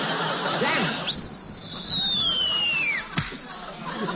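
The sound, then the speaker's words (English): A cartoonish sonic boom effect of someone breaking the sound barrier after joining the Air Force: a long, high whistle slides steadily downward for about two seconds, then ends in a single sharp crack, all over a steady rushing background noise. “I broke the sound barrier.”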